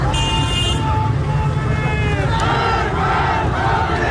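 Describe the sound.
A large crowd of protesters in Mahabad chants slogans against the leader of the Islamic Republic in loud unison, voices rising and falling in a steady rhythm, with car horns tooting over the noise near the start.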